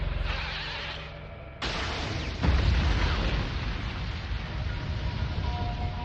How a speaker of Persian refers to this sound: یه حمله دو مرحله ی صوت و انفجار هوشمندانه بود.